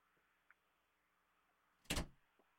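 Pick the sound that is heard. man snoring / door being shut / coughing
door being shut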